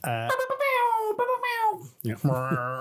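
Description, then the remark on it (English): A voice imitates a foghorn: a long, loud droning tone that slowly wavers and falls, then a brief break and a second, lower, buzzier blast. “Is that your DJ noise? Yeah. Foghorn.”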